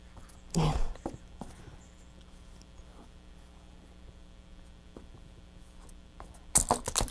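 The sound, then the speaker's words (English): Keys jingle in two short, bright bursts, one near the start and another at the very end, with a faint steady hum filling the quiet stretch between. “You want your keys back?”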